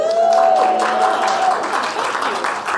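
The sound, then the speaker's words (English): An audience at the show Vicky's World applauds with dense, steady clapping, a faint sustained tone lingering early on before the clapping carries on alone. “That applause has given me everything I need, so good night.”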